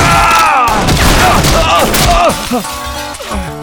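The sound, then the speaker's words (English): A loud volley of gunshots as several robbers fire their guns inside a bank, rapid overlapping cracks filling the first couple of seconds, followed by shouting voices and scattered noise as the firing tapers off. “They heard the shots and some folks are coming this way!”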